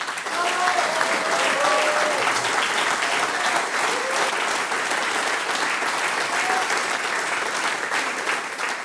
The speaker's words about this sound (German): Ebenso mit dabei gehabt haben wir heute die Tanzelmusik des Musikvereins Bad Blumau. Applaus für euch.